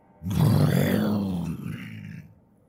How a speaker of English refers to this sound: It was then, just as she came to the sickening realization of what had been used to open the screen, that she heard it. A wet, guttural growl.